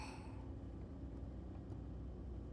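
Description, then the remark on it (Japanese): A steady, low rumble of a car engine and tyres on the road as the car gets onto an expressway with more traffic than usual at the start of a three-day holiday, heard from inside the vehicle, continuous and even with no voices. “ここから高速道路に乗るんだね。いつもより車多いよね。”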